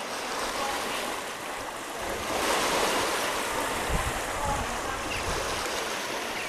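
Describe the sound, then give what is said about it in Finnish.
Waves wash steadily onto an open-sea shoreline with no archipelago, a continuous broad roar of surf that swells louder midway, with a few low thumps of breaking water and a breezy hiss throughout. “Täysin avoin meri. Ei mitään sirpaleista saaristoa, vaan rantaviiva ja siitä alkaa pitkä meri.”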